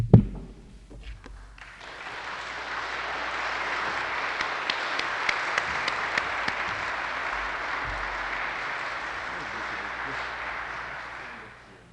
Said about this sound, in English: You've applauded. That's very appropriate.